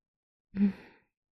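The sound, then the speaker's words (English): A single heavy breath, an audible exhale with a slight voiced, sigh-like edge, lasting about half a second and fading out into silence. No one speaks. “You're breathing so hard.”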